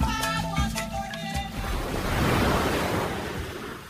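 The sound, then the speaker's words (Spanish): A short musical tone fades out, then a broad wash of waves on the open sea swells up and rolls on steadily, loud, with no one speaking. “3 meses perdidos sin brújula en alta mar, con solo un botellón de agua potable.”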